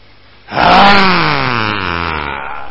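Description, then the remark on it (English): A man's voice lets out a long, loud roar, starting abruptly and sustained for about two seconds with a slowly falling pitch, imitating the powerful roar of Advaitacharya. “Advaitacharya roars.”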